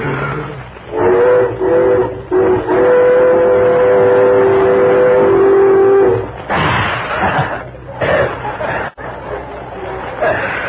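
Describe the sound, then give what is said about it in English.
A voice blows through cupped hands, thumbs crooked together and lips pressed against the second joint of the thumb, to imitate a Western Pacific train whistle: a steady, hooting mid-pitched tone held for about five seconds with slight wavering, then breathy noise and murmuring afterward. “Press the lips firmly against the second joint of your thumb. Yeah. And then in this manner, you blow, like this.”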